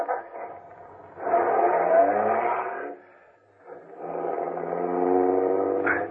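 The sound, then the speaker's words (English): A limousine engine, an official MVD car, turns over and catches as the starter is pressed, then revs up in two strong swells with a brief dip between, loud, with no voices. “I got in quickly and stepped on the starter.”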